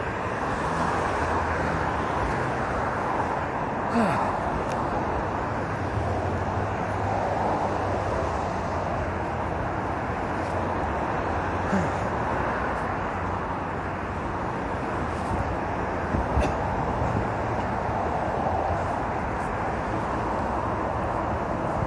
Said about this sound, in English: Yeah, anyway, I'm real near a bus stop, so I assume a bus just came and offloaded a bunch of people.